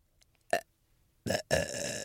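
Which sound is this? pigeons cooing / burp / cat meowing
burp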